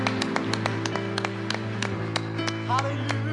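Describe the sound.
An audience claps for the Lord, sharp irregular hand claps rising over a steady low hum and murmur of voices, with scattered claps continuing through the whole stretch.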